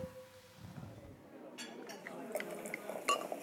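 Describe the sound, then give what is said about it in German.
Champagne glasses clink together in a toast with the last glass, a few bright chiming taps after a short quiet stretch, with soft rustling and room noise around them. “Dann stoßen wir nochmal an mit unserem letzten Glas, oder?”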